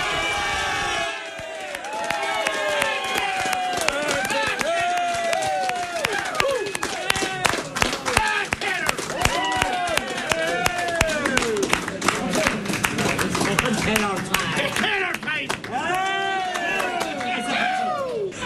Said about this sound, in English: The biggest cheer we've had of the whole count so far.